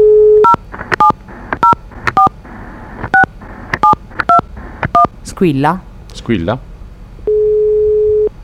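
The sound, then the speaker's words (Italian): A phone line hums with a steady tone, then a quick series of about eight dual-pitch keypad beeps punches out a number to call someone live on air. Brief warbling chirps follow, and the steady line tone returns. “Io ti direi che proviamo a chiamarlo in diretta.”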